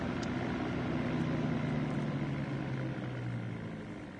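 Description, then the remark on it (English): A car engine rumbles at idle, its low steady drone dipping slightly in pitch and fading toward the end as the car comes to a stop and is parked at a public house, with no voices. “I'm leaving the car here.”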